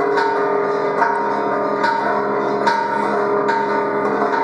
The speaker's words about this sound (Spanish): Dicen que después que dio el grito sonaron las campanas. Las campanas sonaron primero para llamar a la gente.